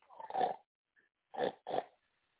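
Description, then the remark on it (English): A pig grunts and oinks three times, one longer call followed by a short pause and then two quick back-to-back grunts, with no other sounds around them. “Yeah, I'm getting ready to take this pig and put it in here.”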